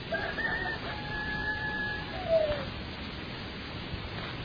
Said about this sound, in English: The rooster crowing heralds a new day.